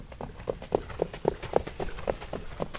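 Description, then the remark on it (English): The hooves of a 3-year-old nut brown pacing horse beat a quick, steady rhythm as it pulls a light sulky in laps around a homemade track near Westport, New York, unaccompanied by voices. “turns laps with his 3-year-old nut brown pacer on his homemade track near Westport, New York.”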